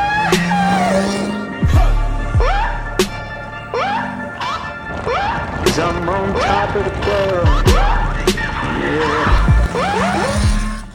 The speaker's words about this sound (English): But wait, check out this awesome reel I made of me riding my motorcycle. It's fucking awesome.